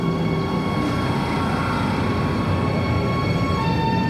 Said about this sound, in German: Bingen Hauptbahnhof. Die Mittelrheinbahn von Koblenz nach Mainz kommt an. Viele Fahrgäste steigen aus. Dennoch bleibt der Zug so voll, dass sich wie so oft an den vergangenen sonnigen Sonn- und Feiertagen große Menschentrauben um die Türen bilden.